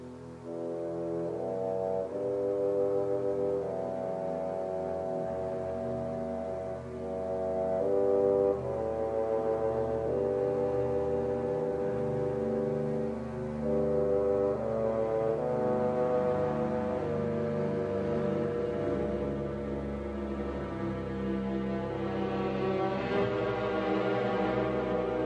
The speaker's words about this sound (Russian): Звучит фрагмент шестой патетической симфонии Петра Ильича Чайковского.